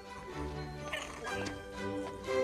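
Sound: puppies yipping and whimpering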